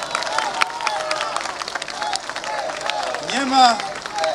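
An audience applauds minister Elżbieta Rafalska steadily throughout, a dense wash of many hands clapping at an even level, with a brief rising vocal whoop or cheer near the end.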